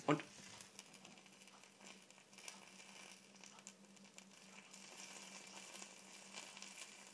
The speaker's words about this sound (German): So hört sich das Ganze an. Das ist der Käse, der auf die Herdplatte kommt, nehme ich an.